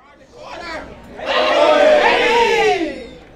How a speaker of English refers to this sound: A group of college students are cheering around a set of screens. Half of the room has their eyes glued to an NBA 2K video game, the other a head-to-head Call of Duty match. This is the middle of a four-hour esports competition at Winston-Salem State